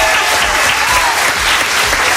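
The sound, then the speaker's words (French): A radio show's crowd applauds themselves after singing the show's theme song together, a dense, even wash of many hands clapping at once that stays loud and unbroken throughout, with no voices standing out. “Ok, ok, vous pouvez vous applaudir.”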